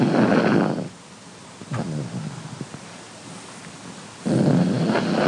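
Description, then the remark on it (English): A 5-year-old pug named Ernie B. grumbles and snores after a long day: two loud, rasping, rumbling breaths at the start and end, with softer low grumbling noises in the quieter stretch between them. “It is the sound of Josh and Betsy's 5-year-old pug. His name is Ernie B. He grumbles and snores after a long day.”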